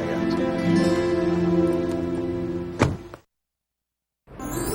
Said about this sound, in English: He opens the passenger side door for her and she gets in.